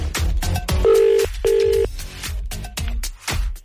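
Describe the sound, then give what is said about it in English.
A telephone ringback tone of an outgoing call made on a Today FM radio show sounds as a double burst, two short matching buzzy tones in quick succession, fairly loud and clear over a rhythmic backing bed. “It's ringing.”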